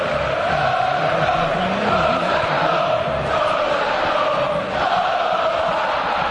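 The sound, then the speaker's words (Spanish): A large crowd of Atlético de Madrid fans chants in unison at the Calderón stadium in the final stretch of a match, a loud, steady roar of massed voices with a rising and falling melodic line that carries on throughout. “Era el tramo final del partido, Corro, cuando comenzaron esos cánticos.”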